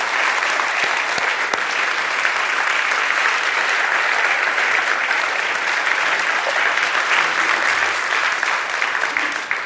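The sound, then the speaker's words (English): A church audience applauds its musicians with steady, dense clapping that stays loud and even for about ten seconds, with no voices rising above it. “And so I first of all want to applaud all of our musicians,”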